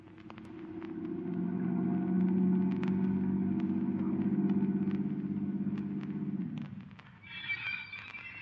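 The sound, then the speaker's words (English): A car engine hums steadily at a moderate level as the vehicle drives along, then fades out near the end, with a brief higher hiss afterward. “Now wait here, and I'll order the car.”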